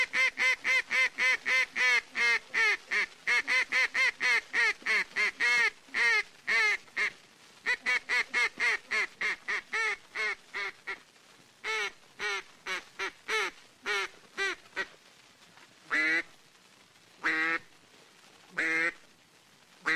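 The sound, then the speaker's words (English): Duck calling in flooded timber at Stuttgart, Arkansas: a long, rapid run of loud quacks with a steady rhythm, slowing into a few drawn-out, widely spaced quacks near the end. No one speaks. “And here is duck calling as done in the flooded timber at Stuttgart, Arkansas.”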